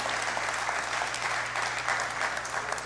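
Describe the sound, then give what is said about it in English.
A large crowd applauds steadily, a dense, continuous wash of clapping with scattered cheers, holding at an even, moderately loud level for a few seconds with no one speaking. The crowd is cheering a statement against abortion. “And I expected that cheer for abortion”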